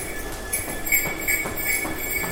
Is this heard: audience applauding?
no